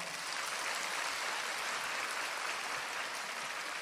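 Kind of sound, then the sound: crowd, applause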